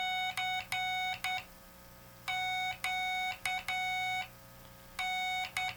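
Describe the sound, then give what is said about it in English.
A Morse code radio signal reproducing the message the Titanic sent: steady, buzzy electronic tones in bursts of short dots and longer dashes, separated by brief gaps, over a low constant hum. No one speaks. “Okay, that's what the Titanic sent.”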